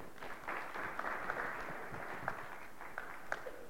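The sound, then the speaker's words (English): An audience claps their hands as a hand clap for the Lord, a steady, dense wash of applause, with a few sharper individual claps standing out over the continuous crackle, at moderate loudness throughout. “Come on, get the Lord a hand clap.”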